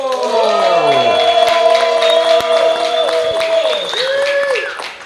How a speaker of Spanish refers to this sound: ¡Fuerte aplauso!